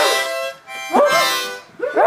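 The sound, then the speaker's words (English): Reedy harmonica chords wheeze and hold as children blow into brand new harmonicas handed out by bluegrass musician Stevens, broken by their voices yelping and barking like dogs into the instruments, with loud bursts of rising and falling bark-like cries. “I'll spare you most of the sound, but kids are blowing, breathing, huffing, talking, and even barking into their new instruments.”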